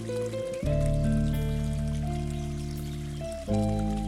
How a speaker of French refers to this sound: Et maman lui montre un beau ruisseau qui glougloute entre les rochers.